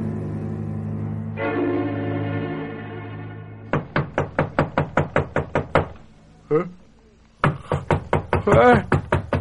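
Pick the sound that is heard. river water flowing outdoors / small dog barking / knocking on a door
knocking on a door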